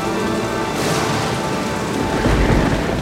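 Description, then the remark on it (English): Steady, dense rain hisses throughout while deep thunder rumbles underneath, swelling louder toward the end of the short stretch. No voices, just the continuous wash of a storm. “Bartholo believes that Rosina can't sleep because of the storm.”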